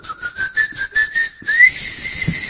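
A series of short, evenly spaced high whistle notes, followed by a longer, steady, slightly rising whistle, whistled to make a keychain locator respond; clear, with no talking.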